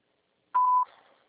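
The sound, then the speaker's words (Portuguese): A single short, steady electronic beep at a clear mid pitch, a voicemail prompt tone signalling the caller to record a message, lasting about a third of a second before fading into a faint hissy tail. “Após o sinal, grave sua mensagem.”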